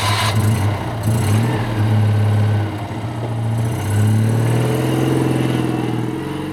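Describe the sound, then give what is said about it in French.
At night, a Citroën 2CV's small engine buzzes and revs hard, dipping briefly before climbing in pitch again as the car hurriedly pulls away; loud and steady, with no voices. “On entendit le démarrage précipité d'une deux chevaux.”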